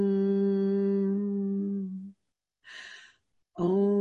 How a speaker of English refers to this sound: He was talking about humming the syllable om, right? This universal meditation type syllable. So just try that right now. Just everybody just try that. Just hum om.